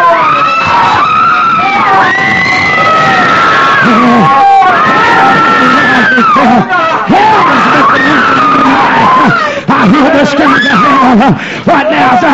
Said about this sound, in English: People are screaming, begging for mercy, but there's no getting out of hell.